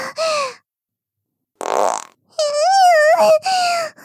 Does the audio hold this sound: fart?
yes